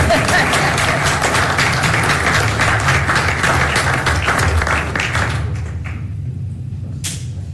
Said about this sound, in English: Oh, it's too quiet. We can applaud now.